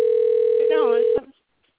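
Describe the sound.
A steady, unbroken telephone tone hums for just over a second, a voice briefly speaking over its latter half, before it cuts off abruptly into silence.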